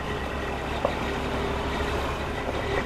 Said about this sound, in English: The 18-wheelers run constantly in and out of here from early November to mid-December.